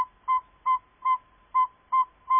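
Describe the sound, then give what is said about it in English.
A northern saw-whet owl gives a prelude to its advertising call: six clear, whistled toots at an even, quick pace, each short and mellow, distinct against a quiet background. “Some give a prelude to their advertising call.”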